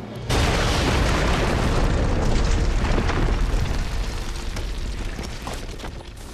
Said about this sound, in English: In the underground tunnel, Teal'c detonates the explosion.